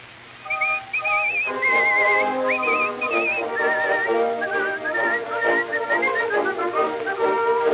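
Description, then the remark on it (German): Loud, agitated whistling in quick, warbling bursts and sliding phrases, running almost continuously for several seconds over a steady tonal backing, with no talking. “Endlich erhört sie ihn, aber oh grausames Schicksal, der Ehemann kommt hinzu und pfeift wütend.”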